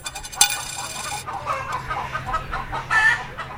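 chickens clucking

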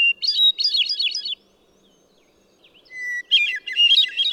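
hermit thrush song

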